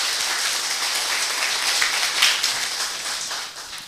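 A welcoming round of applause from a group attending a Japanese language class at a Buddhist temple: steady dense clapping that holds at an even, fairly loud level for several seconds before easing slightly at the end, with no voices over it.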